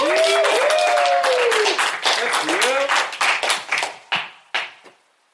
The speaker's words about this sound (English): So without further ado, if I may, please, everybody give a good round of applause for your level one Cicerone coming to the stage